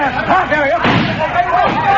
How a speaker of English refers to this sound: Oh. Hey, what's that? It sounds like shots in the bank.